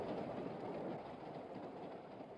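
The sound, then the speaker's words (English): A train rumbles steadily along the tracks, a continuous low, dense roar with faint rhythmic rattling, even in loudness throughout, with no voices. In the winter of 1862, the train carries women under guard from Nashville up to Louisville. “And they were put on a train and sent up to Louisville, under guard so they couldn't escape.”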